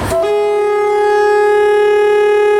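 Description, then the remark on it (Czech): A single loud, sustained horn blast from a historic train in the Czech Republic starts with a brief rising attack, then holds a steady, rich harmonic tone without pause for over two seconds, with no voices. “Má varovat účastníka pozemní komunikace, že se blíží vlak, tak to nemůže být nějaké škvrkátko, které skoro neslyšíte.”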